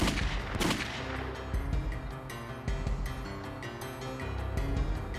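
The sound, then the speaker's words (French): Several loud, sharp gunshots from a firearm taken out of a paper bag ring out at irregular intervals, the first the strongest, each a sudden crack over a steady, dense background rumble, with no talking. The shots are fired at a man's left temple as he crosses the street at the intersection of East Ferry and Zenner streets. “Il sortit une arme à feu d'un sac de papier et tira sur Thomas à quelques reprises à la tempe gauche.”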